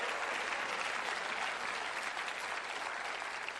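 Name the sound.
audience applauding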